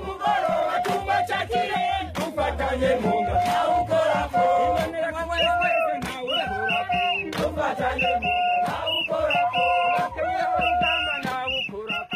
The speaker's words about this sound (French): Ses soutiens qui ne ratent aucune occasion pour le lui démontrer par des cris de ralliement et des chants guerriers.